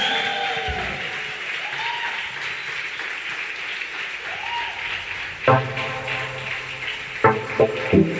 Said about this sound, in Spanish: Y ese aplauso para Jesús.